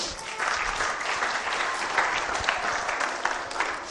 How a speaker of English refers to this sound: Thank you. Give them a clap.